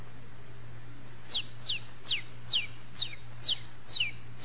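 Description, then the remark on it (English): A one-day-old rooster chick peeps repeatedly, about eight thin, high, descending cheeps at a steady pace, over a low constant hum and background hiss. “You've got here The Life of a Rooster in four parts. One day, 4 months, a year, and 4 or 5 years old.”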